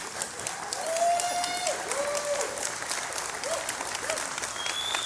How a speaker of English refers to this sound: Aren't you grateful for people answering the call? Aren't you grateful? No, keep clapping, keep clapping.